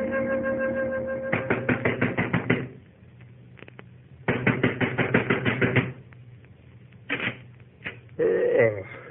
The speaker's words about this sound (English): You banging on the right door, mister?